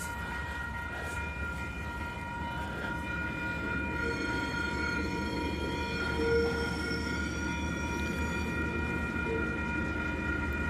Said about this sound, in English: And then suddenly a light pierces the darkness, illuminating the once black alleyway. Diesel engines rumbling and wheels screeching. It's here. Number 345, the NZ Steel coil train. If you can hear that, this is it.